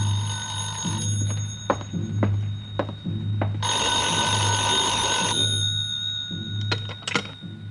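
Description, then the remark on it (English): A telephone bell rings in a loud, rattling burst over a steady low hum, with scattered clicks before it and a shorter jangle near the end, as a call comes in to a small side street hotel room. “That 6 o'clock plane must have been way out over the Caribbean when the call finally came.”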